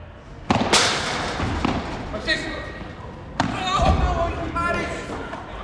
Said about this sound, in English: At lunchtime, you get lots of people playing paddle. That's a crossover between tennis and squash, and I got to see it in action.